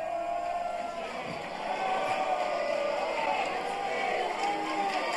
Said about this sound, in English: But aside from that spate of booing, the crowd, as you can hear, largely positive.